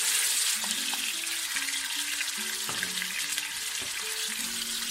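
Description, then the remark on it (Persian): Steady sizzling of meat and diced onion being sautéed together in oil in a pot, a dense crackling hiss throughout with occasional soft stirring clinks and scrapes. “همزمان پیازی رو که نگینه کرد کرده بودیم بهش اضافه میکنیم و پیاز و گوشتمون رو با هم تفت میدیم.”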